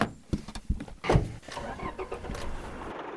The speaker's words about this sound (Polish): My trochę oszukujemy, jedziemy samochodem, ale warto podkreślić, że tu, gdzie jesteśmy, samochodem wjeżdżać absolutnie nie wolno. Tak, jesteśmy w szlaku turystycznym, tutaj już samochodem nie można wjechać.